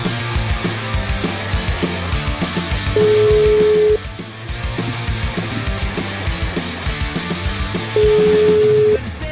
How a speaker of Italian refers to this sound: Dottore, risponde, telefono squilla, dottore Feltri.